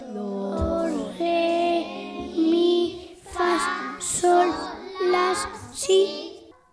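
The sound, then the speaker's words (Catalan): A group of children vocally imitating the midday bells of the Tower of Pisa, chanting a series of sustained, ringing tones in a steady rhythm, rising and falling in pitch like tolling bells. “Sí, a veure, imaginem-nos que és migdia, sonen les campanes de la torre, a veure si entre tots podem fer el so de les campanes de la Torre de Pisa.”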